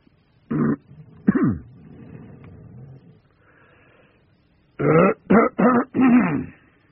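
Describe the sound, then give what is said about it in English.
A person clears their throat with two rough bursts, then after a quiet pause with faint background murmur, lets out a quick cluster of four loud coughs. “I'll cough.”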